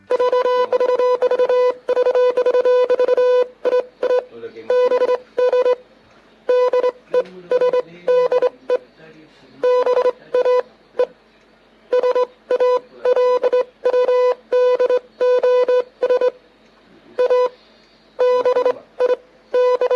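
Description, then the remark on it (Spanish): A Morse code radio greeting sent from the Esperanza Antarctic base: a loud, steady high-pitched tone keyed on and off in rapid dots and dashes, with brief pauses between groups, running throughout without any voices. “Vamos a escuchar entonces este saludo en código Morse desde la base Antártica Esperanza, y después se los traduzco yo, que soy, por supuesto, traductora Morse castellano, castellano Morse.”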